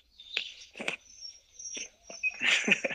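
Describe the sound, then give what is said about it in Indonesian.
Swiftlets chirp nearby in a forest in a busy, uneven series of high twittering calls and sharp clicks, fairly close and moderately loud, with no talking. “Ini kau dengar nggak suara burung walet di dekat?”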